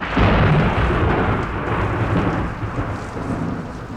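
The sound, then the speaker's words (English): A heavy, loud rumble of thunder rolls on continuously at night, deep and booming, with a steady wash of rain hissing underneath. No voices are present. “Thunder is the loudest sound the night can have.”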